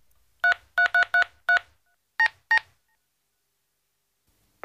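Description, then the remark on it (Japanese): A phone keypad dialing a number to order delivery pizza: seven crisp, evenly spaced beeps, five quick ones then a short pause and two more, clear with silence around them. “あ、まあいいや、とにかく電話かけるからな。”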